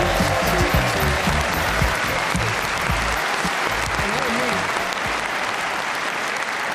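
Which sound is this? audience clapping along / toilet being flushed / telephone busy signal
audience clapping along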